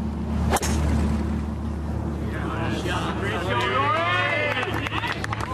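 A single sharp crack as Rory McIlroy hits a 3-wood for the green in two on the par-5 final hole at the K Club, followed by a few seconds of murmur before a large crowd erupts into a rising, sustained roar of cheering and shouting.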